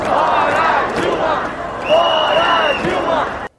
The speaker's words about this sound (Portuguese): Vestidas de verde e amarelo, milhares de pessoas acompanhavam um roteiro determinado por 3 carros de som e gritavam palavras de ordem contra o Partido dos Trabalhadores, o ex-presidente Lula e a presidenta.